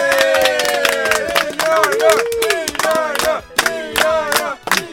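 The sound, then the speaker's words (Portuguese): Clapping hands mixed with loud, sustained cheering and whooping voices, a lively burst of applause for the guest Nhonho from Chaves on the live Trash Total show, carrying on steadily for several seconds with a few sharper claps near the end. “Tá aí, uma salva de palmas pro Nhonho, gente.”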